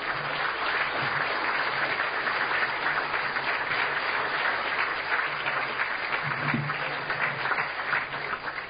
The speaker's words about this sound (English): Let's give him a great big hand. Big round of applause for Father Mack.